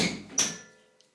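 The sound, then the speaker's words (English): A door being opened to let the cats out: a single sharp latch click rises out of a soft rustle, then a faint metallic ring fades away, with a small tap near the end. “Okay, I'm going to just let the cats out.”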